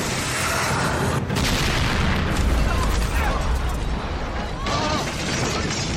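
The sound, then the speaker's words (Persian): A loud, sustained explosive roar with heavy low rumble and crackling debris, jolting sharply at a couple of points as if from a missile striking a ship. “خورد بهش. گزارش خسارت. جنراتور دو از کار افتاد.”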